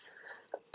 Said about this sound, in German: Es tut mir leid, wenn ich ab und zu husten muss.